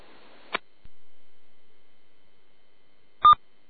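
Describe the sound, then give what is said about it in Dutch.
A short electronic blip, then near silence with a faint low click, followed about three seconds later by a louder, steady mid-pitched electronic beep. No one speaks. “Wacht even, even die stomme piep afzetten.”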